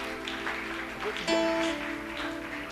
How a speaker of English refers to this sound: Clap your hands.